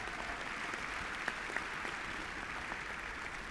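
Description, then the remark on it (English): A crowd at a nonpartisan event applauds steadily, a dense wash of many hands clapping at once, sustained and even in loudness throughout with no voices breaking through. “but give yourselves a round of applause for all the hard work you've done in the past year.”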